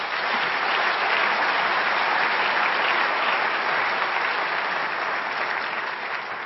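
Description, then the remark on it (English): A convention audience claps steadily for the speakers for several seconds, a dense, even wash of many hands at a constant loudness, with no one speaking over it. “Then I have an announcement to finish this off, but first I wanted to say maybe it's good to give a round of applause for the speakers.”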